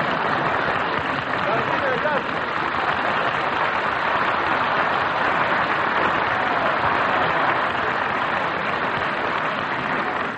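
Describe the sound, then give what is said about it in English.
Sustained audience applause on a program, a dense steady wash of clapping hands at even loudness for about ten seconds, with faint crowd murmur mixed in and no break. The audience is applauding a man said to look like Harry Truman. “I think that he certainly looks like him, and the applause shows it, too.”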